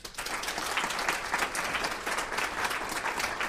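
An audience at Aspen applauds steadily, with dense, even clapping that holds at a fairly loud level for a few seconds without any talking, voting by applause to rate Obama at least 7 out of 10 on his response to the economy.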